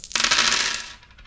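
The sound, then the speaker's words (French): Several dice are rolled, rattling and clattering across a hard surface in a quick, dense burst of clicks that lasts under a second, then tapering off into a few faint ticks; the roll comes up 6, 5, 5. No one speaks. “Ok, et bien donc fais-moi ton jet, on va voir comment tu t'en sors.”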